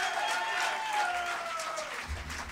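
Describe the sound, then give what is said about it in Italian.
An audience applauds a guitarist steadily with dense, crackling clapping at a fairly loud level, while a faint sustained tone slides down and fades beneath it. No one speaks. “Un applauso a Pepe, il chitarrista.”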